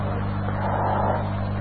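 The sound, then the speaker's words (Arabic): A car passes outside with a steady low engine rumble that swells briefly in the middle before easing off, with no talking. “شو هاي سيارة؟”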